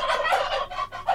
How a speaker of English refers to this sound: Turkey.